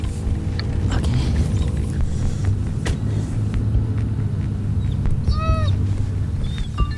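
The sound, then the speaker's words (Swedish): A car drives steadily along a gravel road heading out toward route 97, its deep, continuous engine rumble and road noise filling the scene, with a few brief high squeaks cutting through midway. “Vi tog grusvägen ut mot 97an.”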